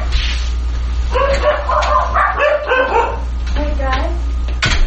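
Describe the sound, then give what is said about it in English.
A dog barks and yips in a quick, uneven run of sharp calls, fairly loud, over a steady low hum. “They're watchdogs over the invisibles. They bark at the invisibles.”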